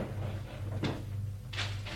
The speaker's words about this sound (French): Vite, dans le bureau. Va ouvrir le tiroir du bureau